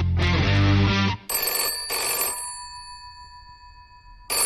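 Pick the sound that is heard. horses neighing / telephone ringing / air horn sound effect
telephone ringing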